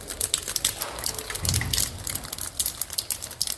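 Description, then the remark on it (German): Rain falling on a backyard, recorded with a mobile phone microphone: a dense, steady crackle of countless tiny patters and ticks with no voices, slightly harsh and tinny. “Es hat geregnet und zwar auf einem Hinterhof, aufgenommen mit einem Handy-Mikrofon.”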